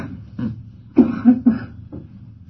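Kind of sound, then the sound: human body sound, audience member coughing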